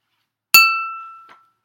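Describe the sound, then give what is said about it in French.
A single bright chime, the signal to turn the page in a read-aloud story, rings out with a sharp strike, then its clear high tone sustains and fades over about a second, ending with a faint soft tap. No one speaks. “Quand tu entends, tu tournes la page.”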